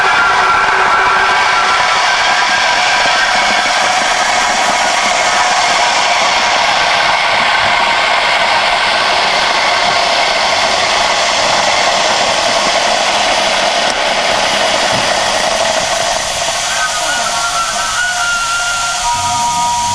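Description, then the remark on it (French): An electric kettle heating water gives off a loud, steady hissing roar with a faint rumbling undertone, holding almost unchanged for the whole stretch with no voices. “C'est une bouilloire électrique.”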